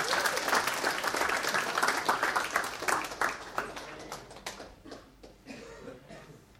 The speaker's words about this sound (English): We're not applauding them, right? But we're just encouraging them, right? We're, like, saying, yeah, you can do it, all right? So can we just give them a round of applause?